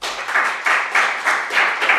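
A crowd applauds steadily, a dense wash of many hands clapping that swells in a loose rhythmic pulse, fairly close and moderately loud, with no voices.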